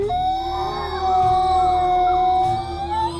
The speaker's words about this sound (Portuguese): Os lobos uivaram em aprovação, todos ansiando seu pedaço de carne.